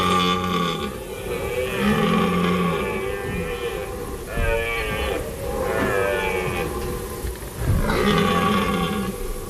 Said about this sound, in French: On dirait que le cerf brame, hein, c'est le bruit qu'on appelle brame.